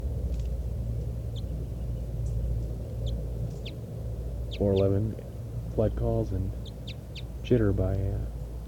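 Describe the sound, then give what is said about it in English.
A bird designated 411 gives a series of three loud, harsh, harmonic flight calls a second or so apart, with faint high chirps scattered around them over a steady low rumble. “411 flight call series.”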